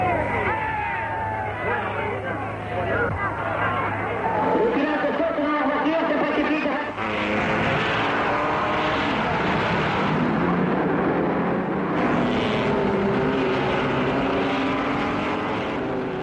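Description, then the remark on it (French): Dense outdoor racetrack ambience at the Le Mans circuit, France, on Saturday 11 June at 16:20, with sixty cars and about 300,000 spectators: a continuous wash of engine roar with rising and falling revving tones, layered over crowd murmur, steady and loud throughout. “Cette ambiance, je vous propose de l'écouter dans une archive. Voilà ce que ça donnait ce samedi 11 juin. Il est précisément 16h20 sur le circuit du Mans.”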